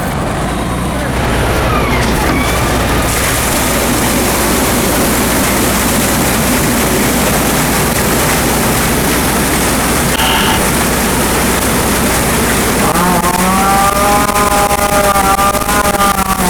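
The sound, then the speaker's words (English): A fire tanker truck's heavy engine roars steadily while a loud rush of water being dumped from the tank runs continuously over it, during a mock emergency drill by the Minden Hills Fire Department at Budget Propane in Haliburton County, with a tonal, voice-like sound rising near the end. “Tank there, dump your water.”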